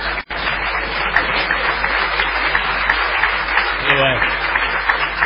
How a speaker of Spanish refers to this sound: Está lleno de hijos acá que aplauden. Sí. Está lleno de hijos.